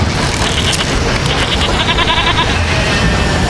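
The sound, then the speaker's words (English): Goats and sheep aboard a moving train bleat loudly and repeatedly, their wavering cries overlapping over a steady low rumble and clatter, continuous throughout. “The sheep and goats didn't like the motion and began to leap from the train.”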